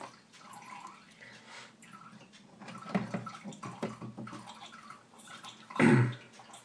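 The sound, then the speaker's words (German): Water runs and gurgles steadily through a machine during a descaling cycle, a liter of water with descaling agent, with splashing and dripping that swells into a louder gush near the end. No one speaks. “Naja, doch einmal, dann wird's das Liter Wasser plus dieses Entkalkungszeug dann durch sein.”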